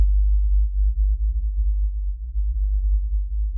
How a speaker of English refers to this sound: This whale, calling out at the wrong frequency, that is a huge deal for a whale.